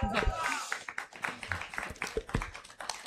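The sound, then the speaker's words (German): An audience applauds with dense, steady clapping that fills the whole few seconds, some voices mixed into the noise. “Ich lade euch einmal ein für einen herzlichen Applaus, weil es nicht einfach ist, vor so einem Publikum über dieses Thema zu sprechen.”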